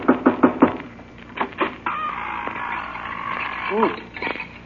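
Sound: knocking on a door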